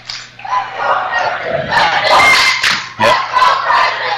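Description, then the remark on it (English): A packed arena crowd of Frederick home fans roars and cheers loudly at a basketball game in the third quarter, with dense clapping and a sharp surge of noise near the end, filling the space with a continuous wash of sound. “I guess we don't have to tell you what kind of crowd we've got here tonight. You can hear it.”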